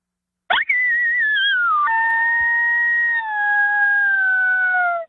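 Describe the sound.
A single long, loud howl blown on a predator call, starting with a sharp yelp, then holding a wavering tone that slowly slides lower for several seconds before cutting off. No talking.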